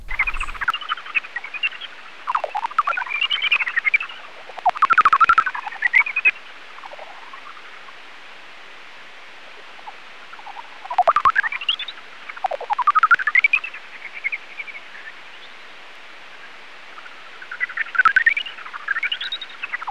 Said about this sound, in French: Ce qui fait que la technique hétérodyne nous restitue la plupart du temps des tocs, pouets, plis. Il n'y a que pour les signaux les plus longs, comme ces signaux de Rhinolof, par exemple, qui nous donnent des petits pépiments, sifflements.